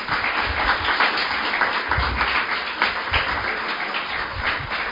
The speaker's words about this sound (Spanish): Le podéis dar un aplauso si queréis.